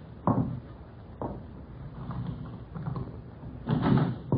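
household object, door being opened

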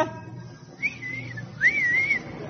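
human body sound, wolf whistle

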